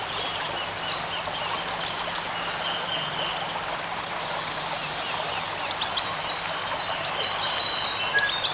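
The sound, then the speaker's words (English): Scattered high bird chirps and calls ring out over a steady, hissing ambience in a forest clearing on Waiheke, with a low buzz of bees humming underneath throughout; no voices or instruments. “But you won't hear any instruments on this epic album, only the birds and the bees of Waiheke.”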